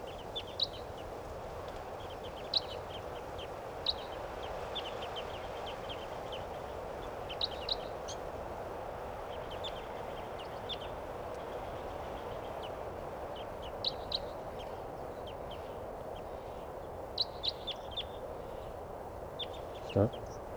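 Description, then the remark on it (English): Wild birds in the trees call in short, high, scattered chirps that come in small bursts over a steady, loud rumbling background noise. No one speaks. “and there are some type 2s in the trees here, pointing at the wild birds.”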